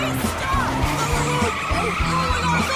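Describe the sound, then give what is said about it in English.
Tires skid and squeal loudly as a car swerves hard onto the sidewalk to avoid a garbage truck, the screech sweeping in pitch over a steady low engine roar, continuous throughout. “Garbage truck! Monica swerves onto the sidewalk.”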